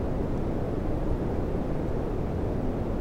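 A steady, unbroken wash of bass-boosted smooth green noise, sourced from a YouTube channel, heavy in the low and mid range with a soft, rumbling hiss that stays constant in loudness throughout, like a roar of wind or water.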